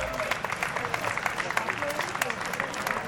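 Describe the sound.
An audience applauds steadily, many hands clapping in a dense, crackling patter that holds an even loudness throughout, with a faint murmur of voices mixed in.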